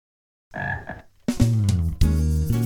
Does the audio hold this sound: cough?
no